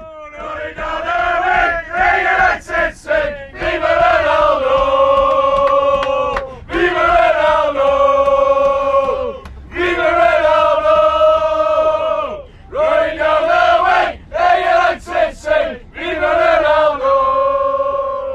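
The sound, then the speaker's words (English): A loud group of football fans on the United We Stand bus sings a rhythmic chant about Ronaldo's signing in unison, repeating short melodic phrases with brief pauses between bursts, their massed voices rough and shouted. “Yeah, you certainly get the sense that Ronaldo signing will have a great influence over the squad and the players, and it's certainly had an influence over the songs being sung at the weekend.”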